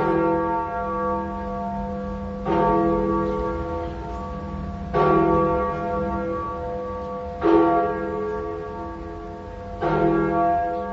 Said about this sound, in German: Es ist die größte profan genutzte Glocke Berlins.